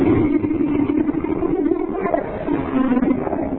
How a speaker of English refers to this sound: 1 Peter chapter 5, verse number 8, the Bible says the devil is like a roaring lion. He would sound a little bit like this.